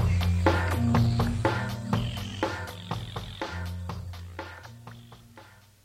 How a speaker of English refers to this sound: Spring has arrived early this year in southern Illinois. Ice is melting and wetlands are ringing with the sounds of frogs. These are Cope's tree frogs and eastern gray tree frogs.